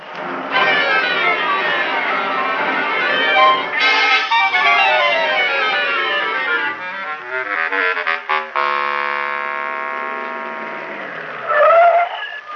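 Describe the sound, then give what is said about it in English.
A car engine revs and whines loudly, its pitch sliding up and down as it pulls away, with squealing, skidding tones and a final sputtering burst near the end. “Won't you take us with you in your car? Okay, hop in.”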